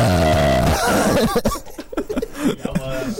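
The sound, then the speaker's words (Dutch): A long, loud, droning burp with a steady low pitch runs for almost a second, then gives way to laughter and lively chatter from a couple of voices. “Oh, gaan we boeren.”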